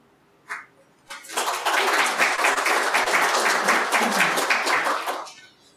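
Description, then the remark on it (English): A Unitarian Universalist audience at a morning service applauds as a speaker is welcomed, breaking in after a couple of scattered early claps, a dense wash of many hands clapping steadily for about four seconds before tapering off. “Don't clap.”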